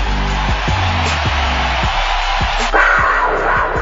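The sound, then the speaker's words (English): A large stadium crowd at a Jaguars football game gives Blake Bortles a standing ovation, roaring continuously in a dense wash of cheering and shouting, with a steady low rumble beneath and a surge in loudness partway through. “It's a standing ovation, folks.”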